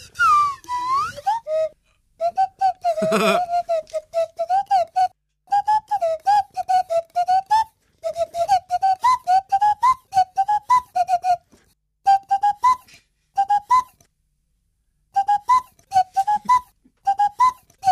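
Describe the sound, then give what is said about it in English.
A Swanee (slide) whistle plays a song melody, gliding smoothly between sustained notes in phrases separated by short pauses. The tone is pure, with no talking. “One that doesn't speak there on the Swanee whistle, but what is it?”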